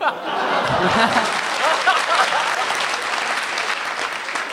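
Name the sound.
applause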